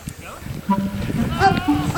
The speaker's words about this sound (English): It is. Your goat sounds like a human yelling for help.